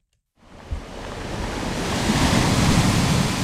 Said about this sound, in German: Die Wellen klatschen an schrundige, rotbraune Felsen. Die sehen aus wie riesige Kleckerburgen. Sind sie ja eigentlich auch. Es ist erstarrte Lava.